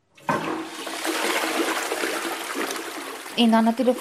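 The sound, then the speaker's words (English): A toilet flushes with a loud, steady rush of water lasting about three seconds, flushed with recycled shower water, then a voice begins speaking just as the flush fades. “When they do, it's with recycled water.”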